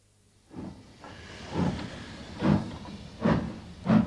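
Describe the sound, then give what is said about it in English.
A steam engine gets going with a series of loud, hissing chuffs of steam, five bursts coming at a steady, slowly quickening rhythm over a low rumble, with no voices. “There you are. She started up. Lovely head of steam, that.”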